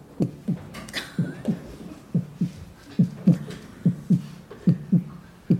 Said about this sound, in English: Sure enough, it started to fall. With snow, as winter came, and those drum beats started to get fainter, just like the grasshopper's heartbeat.